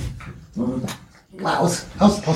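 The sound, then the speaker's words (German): The speaker's dog barks and whimpers in a few short, excited bursts, with brief pauses between them and no other sounds competing. “warte mal eben, mein Hund.”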